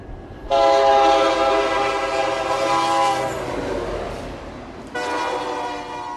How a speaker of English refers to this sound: A few blocks away, coal trains whistle through town day and night, carrying their loads south from strip mines in Wyoming and Montana.